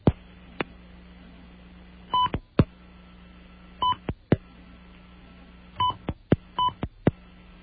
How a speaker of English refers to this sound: Well, since it's responding to my beeps by not beeping, that means that this machine can be accessed by other people, so I would not leave my name and number there if you want your privacy to be respected.